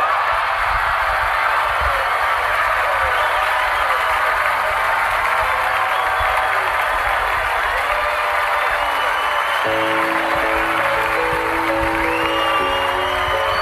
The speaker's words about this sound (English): By the way, I forgot about that part. I was staring right at the guy who wouldn't clap to make sure he clapped. Warlord 101, guys. Watch. I'm staring right at him like, clap. Watch. And I'm nodding like, okay, you've been redeemed.